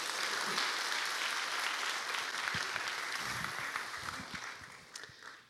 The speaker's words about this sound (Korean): 네, 위에 올라오세요 그럼. 네, 우리 박수로 환영하겠습니다.